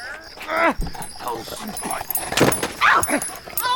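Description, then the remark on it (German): A dog yips, barks and growls excitedly in short, rapid bursts, mixed with rough, agitated noises, while a person's voice breaks in over the commotion. “Mann, nehmen Sie jetzt scheiß Köter hier weg!”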